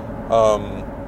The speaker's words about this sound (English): I am almost, hopefully not getting pulled over. I am in my car. I am driving to the Seals Grove area.